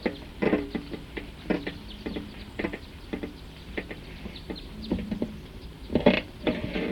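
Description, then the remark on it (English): A bird gives its type 2 call, repeating a short, sharp call over and over at an uneven rhythm, each note a quick bright burst, with a steady low background hiss and no talking. “So recording that same bird, type 2, is still here.”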